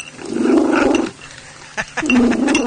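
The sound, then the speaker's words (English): A pet cat named Smokey, adopted from a rescue centre, purring loudly in two long, rough, buzzing bouts separated by a brief pause, the low rumble steady and strong with no voices; measured at over 85 decibels. “They got her 3 years ago from a rescue centre, and she's been purring ever since.”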